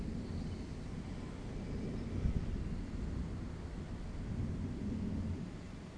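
Deep, rolling thunder, heard from a balcony, rumbles steadily for several seconds outdoors, a low sustained roar with a brief louder crack partway through, set against a wash of rain-like background noise, on a very hot, humid day of 36 Celsius.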